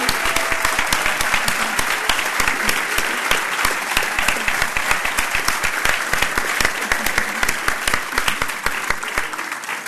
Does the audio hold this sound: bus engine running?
no